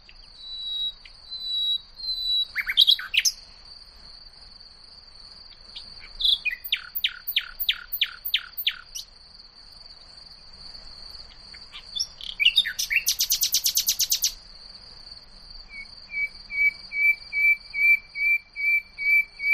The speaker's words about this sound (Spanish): O sea, el ruiseñor lo que tiene es muchos registros, ¿no? Tienen en un estudio serio, tienen 1,161 notas